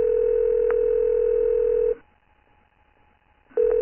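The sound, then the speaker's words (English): A steady, loud telephone tone hums for about two seconds, breaks into a near-silent pause, then resumes, as a phone call from Andrew Forrest comes through before connecting. No one speaks. “The next day, after hearing about my other 1-to-1 interviews, Andrew Forrest called me on the phone.”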